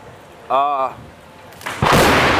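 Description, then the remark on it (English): A brief wavering vocal tone is followed by a sudden, very loud thunder crack from lightning striking a stadium, bursting into a harsh, roaring wash of noise that continues to the end. “And then the lightning bolt happens.”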